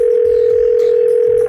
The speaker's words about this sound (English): And finally, it's time to get a hold of Mr. Saint Nick again. Let's just, He has a very long number. It's ringing.